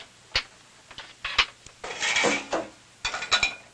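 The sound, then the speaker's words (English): A man loads dishes into a dishwasher in a kitchen: sharp ceramic clinks and clatters at irregular intervals, with a longer stretch of rattling plates and cutlery in the middle, and no talking. “Leaning on the breakfast table, the boy watches his father load the dishwasher.”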